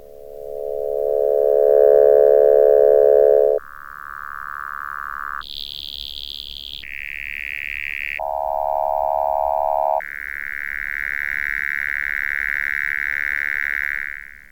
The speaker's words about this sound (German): Am Filter selbst wird die Frequenzregion eingestellt, die es passieren lassen soll. So kann man einem Klang des Sägezahngenerators durch wechselnde Filtereinstellungen zahlreiche verschiedene Farben entnehmen.